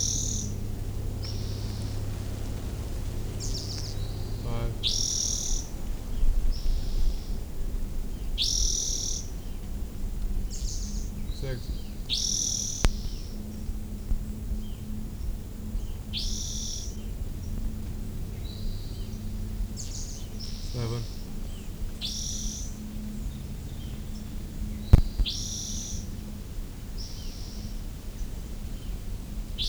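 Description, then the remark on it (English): A bird outdoors, apparently a male missing its tail, repeats short, high chip calls, one every second or two, over a low steady background hum. The calls continue throughout with no talking. “I was trying to record that chip chip chip chip.”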